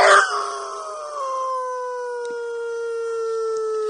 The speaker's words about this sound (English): Is that a dog howling? Is that what it is? Yes, or a wolf or whatever.